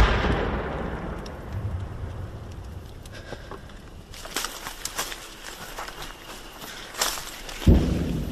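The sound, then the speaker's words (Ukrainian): Several sharp bangs, apparently from a mortar, crack out irregularly over a low outdoor rumble while people shelter in trenches, with a louder, heavier blast near the end. “Сиди, буде стріляти.”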